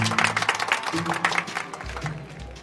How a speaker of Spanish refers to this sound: Gracias a nuestros amigos y amigas del Club de Investigación de Casos Sin Explicación, hoy resolvimos el problema de abandono de este lugar. ¡Un fuerte aplauso!